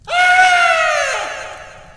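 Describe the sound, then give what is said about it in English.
A woman inside a tent lets out a single loud, high-pitched scream that holds for nearly two seconds, its pitch sliding slightly downward as it slowly fades, with no talking around it. “the sound from the tent suddenly changes to what sounds like a scream.”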